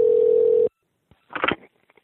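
A steady telephone dial tone hums for under a second, then cuts off, followed by a few faint clicks and a short burst of dialing noise.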